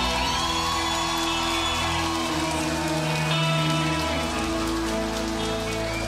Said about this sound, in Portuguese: Então eu queria que vocês todos dessem uma salva de palmas para Porto do Sul.